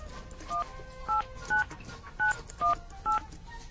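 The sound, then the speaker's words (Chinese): Six crisp dual-tone keypad beeps as a phone number is dialed again after the line was busy, evenly spaced about half a second apart, each short and clear over faint background hiss. “等一下打了，再打一次。”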